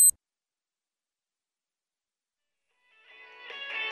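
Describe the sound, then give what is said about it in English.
After a brief click and about three seconds of silence, an alarm clock's electronic tone starts up at 5:15 and grows steadily louder toward the end, with no voices; the clock is beside a bed in a house in Woolwich, southeast London. “I'm in bed in my house in Woolwich in southeast London, and the alarm has just gone off.”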